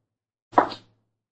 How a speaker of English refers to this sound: She slapped me. You saw her.